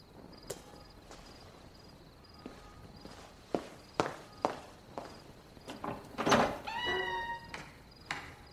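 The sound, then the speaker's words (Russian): Several slow footsteps thud across a floor, then a door creaks open with a drawn-out squeal, while a faint steady chirp of insects hums in the background. “открой дверь.”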